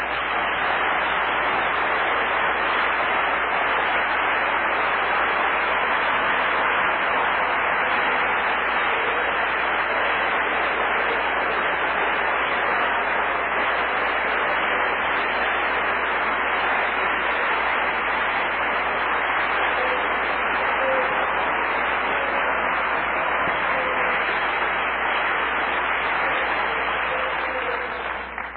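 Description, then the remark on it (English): An audience breaks into loud, sustained applause for God's word. A dense, steady wash of many hands clapping holds at full strength for nearly thirty seconds, with no voices rising above it. “You believe God's word, let's applaud it. Come on, let's applaud it.”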